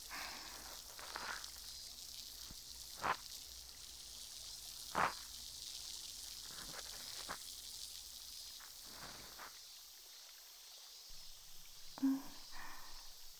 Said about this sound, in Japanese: パチがちょっと弱くなっちゃったかな。じゃあもう一回綿棒を浸してみますね。